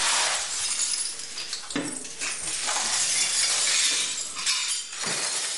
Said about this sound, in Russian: Ты вот слышишь, как вот этот вот грохот камней, которые выкидывают туда-сюда, кадают, и подметают стекла. Этот звон тоже вот очень так хорошо слышен. Звон стекол после обстрелов.